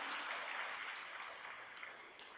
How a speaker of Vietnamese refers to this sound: Cho một tràng pháo tay đến quý vị Phật tử nam.